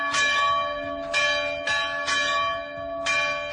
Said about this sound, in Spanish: Ustedes, como yo, estamos acostumbrados a oír el sonido de las campanas, pero este sonido es especialmente importante ahora. Es el sonido de la libertad. En esos pueblos donde están tocando las campanas las tocan los cristianos, claro.